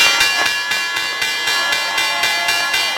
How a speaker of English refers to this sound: And while it's not the same as it was decades ago, you can still feel the energy peak every morning at 9:30 sharp, when the bell signals the opening of the market.